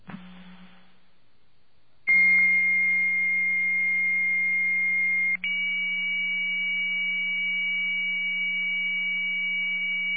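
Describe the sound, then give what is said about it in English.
A short burst of phone-line ringing on a call to a 1-800 number, a brief silence, then a 2400 baud modem picks up with steady high electronic answer tones over a low hum that hold unbroken, with one quick click and pitch shift midway as it switches toward TDD sound. “And what we'll hear a modem pick up first, and then the modem will switch to TDD sound, so you can hear what they both sound like.”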